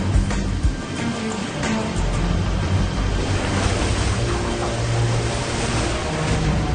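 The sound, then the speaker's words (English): Steady, rough rush of open sea water and surf with heavy low rumble and wind buffeting, continuous and fairly loud throughout, like choppy waves heard from a boat on the water, in open water of the Sea of Japan several miles past a harbor where a tug tows a CL-215 seaplane out for takeoff. “Get the rough out here! The Koreans promised calm”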